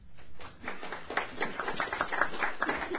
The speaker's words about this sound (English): Right, I was waiting until the next clap.